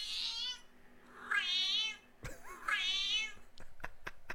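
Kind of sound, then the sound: animal, cat meowing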